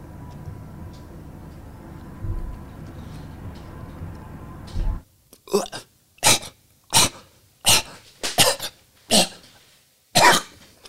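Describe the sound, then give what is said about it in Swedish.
A cat hacks and coughs repeatedly in short, sharp, evenly spaced bursts, coughing up a hairball onto a rag rug, preceded by several seconds of low, murky rumbling background. “Katta fan hostar upp en hårboll på trasmattan framför dig. Det verkar inte sluta.”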